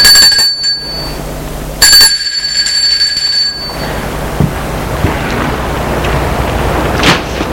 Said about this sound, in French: Entre. Longe la petite cour. Et va sonner à la porte de la maison.